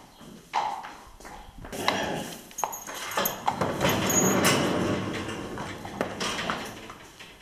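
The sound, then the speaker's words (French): Small ponies, three mares with foals and a small stallion up to 1 metre at the withers, clip-clop their hooves in scattered, uneven knocks over a steady rustling background with no one speaking. “On a trois petites juments avec les poulains et puis un petit étalon. C'est des poneys”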